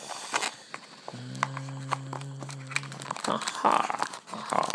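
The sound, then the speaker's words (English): Busy crinkling and rustling as little pieces of concertina paper in a box are rummaged through, with scattered crackles and a short whining tone midway; no one speaks. “Let me just see if there's anything left in the box, apart from bits of paper and stuff.”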